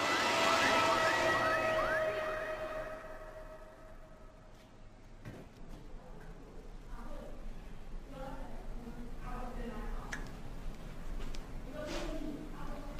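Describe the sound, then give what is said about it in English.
An ambulance siren wails loudly for the first few seconds as the ambulance rushes to St. Eunice's Clinic in Owerri, then drops away, leaving a muffled background of traffic rumble and indistinct voices talking. “Meanwhile, the ambulance rushed to St. Eunice's Clinic in Owerri.”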